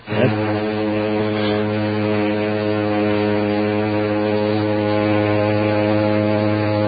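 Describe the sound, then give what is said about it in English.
A foghorn of an ocean liner bound for France holds one long, deep, droning blast way off in the distance, starting abruptly and staying steady and loud for the whole stretch, with no voices around it. “that horn you hear in the background of...”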